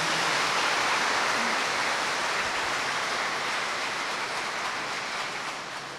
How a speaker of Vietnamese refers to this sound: Chúng con xin xin một cộng đoàn một tràng pháo tay để cảm ơn Đức Hồng Y.